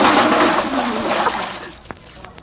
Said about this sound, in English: who put that water bucket up there? Vandals.